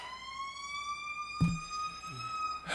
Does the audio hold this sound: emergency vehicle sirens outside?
yes